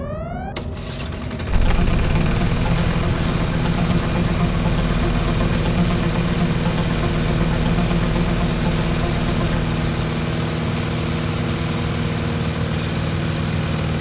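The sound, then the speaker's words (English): A short rising whine gives way to a space rover engine kicking on, then a loud, steady droning rumble with a constant hum that runs evenly to the end, with no talking. “We're going to take the space rover!”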